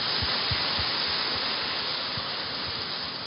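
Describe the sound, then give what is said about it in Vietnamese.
Buddhist followers applaud steadily for a few seconds to approve inviting senior monks to bless a Buddhist cultural-spiritual project, a dense, even wash of many hands clapping with no one speaking over it. “Và cảm ơn các Phật tử, cho một tràng pháo tay thông qua.”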